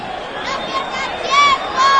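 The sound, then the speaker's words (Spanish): A steady crowd roar fills a football stadium during a Badajoz match while young Badajoz fans shout over it in high-pitched voices, with a couple of louder sustained yells standing out near the end. “Y se escuchan los gritos de los chavalitos de Badajoz.”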